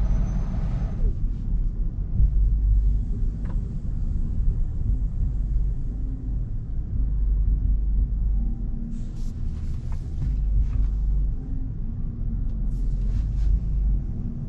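Steady low rumble of a car interior while driving on a road with two narrow lanes, a constant road and engine drone filling the cabin, with faint higher hiss and occasional light clicks on top.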